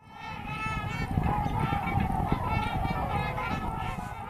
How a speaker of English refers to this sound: A video posted online by Fish and Game reveals thousands of trumpeter swans do not sound like the works of Tchaikovsky.